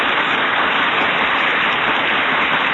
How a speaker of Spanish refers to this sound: Ahí están las fanfarrias, aplausos.